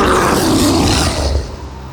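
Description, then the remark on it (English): The creature Hul lets out a single loud, terrifying roar, deep and rasping, held for over a second before tapering off. No one speaks. “Tivian had never heard Hul roar before. It was terrifying enough to make Tivian's bowels watery, and he at least knew Hul had no intention of killing him.”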